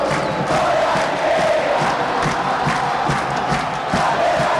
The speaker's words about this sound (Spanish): Y de la tribuna los aplausos para Mateo Gamarra. Olimpia gana 1-0.